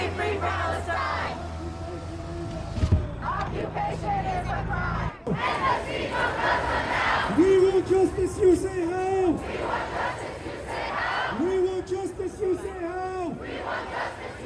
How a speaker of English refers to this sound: He could hear people on megaphones. He heard drums and chanting too.